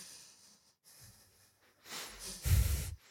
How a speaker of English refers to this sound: Now try to do that nasal breathing.